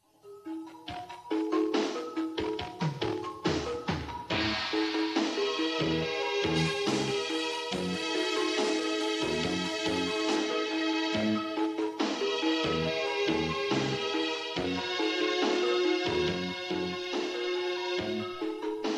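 An instrumental rock song by a Catalan band: driving drum hits and a steady beat under sustained, bright guitar chords, staying loud and full throughout with no singing yet.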